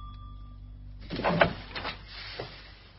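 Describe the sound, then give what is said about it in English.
A door is opened with a short rattling, scraping burst, followed by a couple of softer knocks as it settles. It sounds moderately loud, with no voices. “You're gonna put the acid away before we answer the door, right?”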